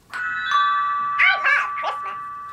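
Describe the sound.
A novelty comedy Christmas doorbell, just unwrapped as a gift, chimes two bright, ringing tones that linger, then breaks into a short burst of playful, voice-like recorded sound, loud.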